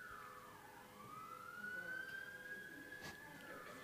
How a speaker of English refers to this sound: Someone's alarm's going off out there. They'll figure it out.